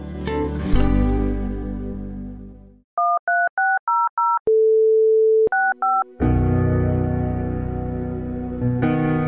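A sequence of crisp two-tone keypad beeps, a steady dial tone held for about a second, then more quick beeps, set between stretches of loud, full-bodied music, in a Mária Rádió announcement about donating by phone.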